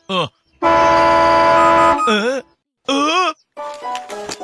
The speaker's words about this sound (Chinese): 鸣笛声超过规定值就是不合格，反之就是合格。邓普，你按一下喇叭。